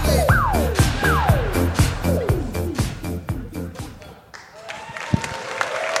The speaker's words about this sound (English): Someone did make that. It's impressive. Probably the biggest applause break we've gotten so far. People like that.